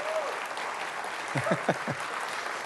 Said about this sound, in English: Just applaud those that were baptized in water. Would you do that? Just give them applause. That is so cool. That is so cool.